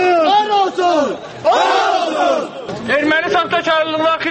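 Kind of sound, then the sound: crowd, protest crowd chanting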